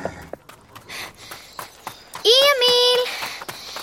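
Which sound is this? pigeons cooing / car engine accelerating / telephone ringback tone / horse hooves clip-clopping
horse hooves clip-clopping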